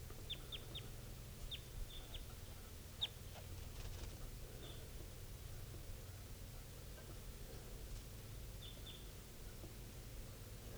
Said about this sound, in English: And it's an adult male type 2. Wild bird. Step. Recording this wild bird, adult male, is just flying around low near the cages of the birds. Not calling right now, but this is the wild bird.